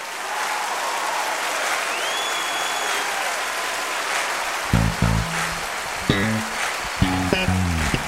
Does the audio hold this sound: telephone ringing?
no